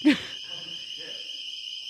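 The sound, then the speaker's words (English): A shrill, steady electronic alarm tone, called the ball alarm, holds unbroken for the full two seconds, opening with a short grunt-like vocal burst, with faint murmuring underneath. “What happened? The ball alarm. Do we have to stop?”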